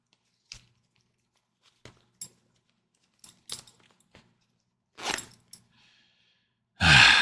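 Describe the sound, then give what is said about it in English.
A zipper is pulled, a short rasping burst near the end, after scattered soft clicks, rustles and a brief scratchy sweep. No one speaks. “That was my zipper.”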